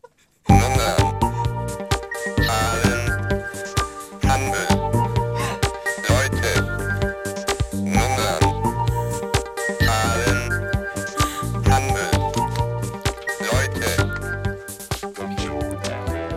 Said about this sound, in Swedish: Är det här ny musik? Ja, ja, vi har fått en ny liten signatur.